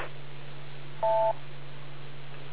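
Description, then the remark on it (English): A single short telephone beep tone, a steady dual-pitched electronic tone lasting about a third of a second, over a constant low hum and faint background hiss. “We went almost 6 minutes without beep tones.”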